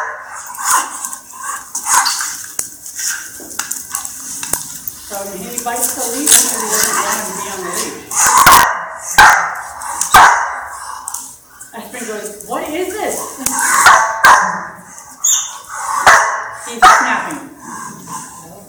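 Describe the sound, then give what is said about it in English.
An adult dog named Aspen barks in repeated short bursts at a puppy, trying to tell him off, with higher yips mixed in and scattered sharp clattering knocks, lively throughout. “This is a puppy with Aspen, and Aspen is going to try to tell him off, but it's not going to work very well.”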